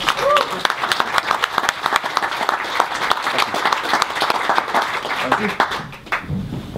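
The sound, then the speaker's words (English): An audience, on its feet, breaks into sustained applause to welcome a speaker, dense overlapping clapping that stays loud for about six seconds with a few voices mixed in, then thins out at the end. “So if you wouldn't mind, everyone up on their feet, a big round of applause for”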